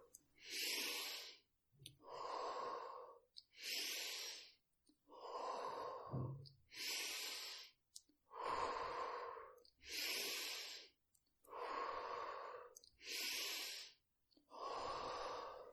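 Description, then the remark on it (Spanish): A steady series of deep, forceful breaths, about ten in a row, alternating sharp hissing inhales with fuller, breathy exhales, loud with no talking, during a breathing exercise of ten final deep inhales and long exhales. “Inhala todo lo que puedas, exhala largo, aguanta la respiración.”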